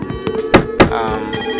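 A telephone in a house in a video game rings with a steady, buzzy electronic tone, interrupted by two dull thumps close together midway through.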